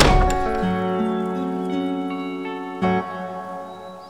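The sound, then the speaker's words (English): A door swings shut with one solid thunk at the very start as a man follows a sheriff inside and closes it behind him. Steady ringing tones then linger underneath for several seconds. No one speaks. “Watts followed the sheriff inside and closed the door behind him.”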